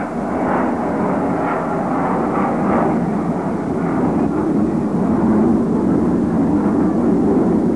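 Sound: airplane flying overhead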